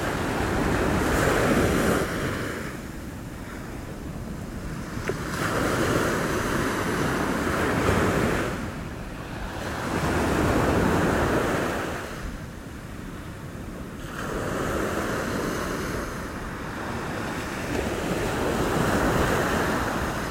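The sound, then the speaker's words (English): Ocean waves break on a shore in slow, rolling surges, each swell of roaring surf rising and fading back several times. The sound is full, with some wind and no voices. “Just listening to the sound of the waves.”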